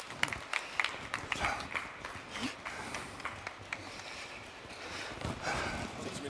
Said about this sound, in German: Herzlich willkommen und gerne noch einen warmen Applaus für unsere Panelisten.